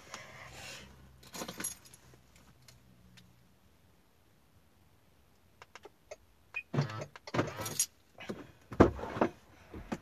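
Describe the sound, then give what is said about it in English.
Someone climbs into a car: a quiet stretch after some shuffling, then a cluster of metallic key jangles and clicks, with a louder rustle and clunk near the end. “Why don't you jump in this car?”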